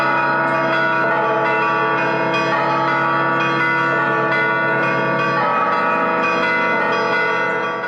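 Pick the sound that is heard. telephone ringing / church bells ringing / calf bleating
church bells ringing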